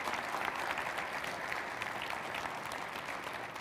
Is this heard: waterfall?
no